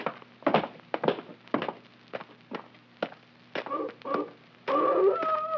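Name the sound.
wolf howling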